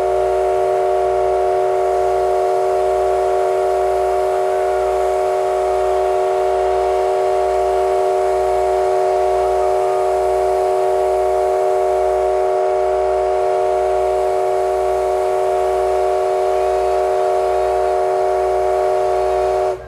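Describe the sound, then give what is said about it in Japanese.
The whistle of a C58-type steam locomotive, No. 239, blows loud in one long, steady, sustained farewell blast echoing along the railway line, with a rhythmic low chugging pulse beneath it throughout. “沿線に響く別れの汽笛。”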